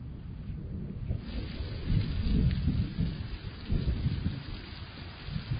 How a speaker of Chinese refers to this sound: 小雨开始下了起来，道路一片湿滑。